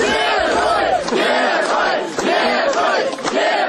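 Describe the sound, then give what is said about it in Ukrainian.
A large crowd at the Minsk bus station, Belarus, shouts and chants together in loud, rhythmic bursts, greeting Mykola Statkevich, a former candidate in Belarus's 2010 presidential election. Many voices overlap, with swelling cheers rising and falling across the moment. “Такими вигуками на мінському автовокзалі зустрічали екс-кандидата на виборах президента Білорусі 2010 року 59-річного Миколу Статкевича.”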